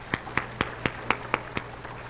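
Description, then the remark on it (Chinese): Clapping for three married couples who had just shared at a church gathering, in a steady, even rhythm: about eight sharp claps, roughly four per second, over a faint low hum, with no talking. “我们再给他们一次鼓掌。”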